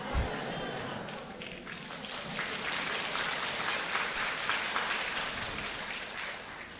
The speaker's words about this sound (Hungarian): És akkor most már így tapsoltok, akkor nem titok, tudjátok, hogy kiről szólok.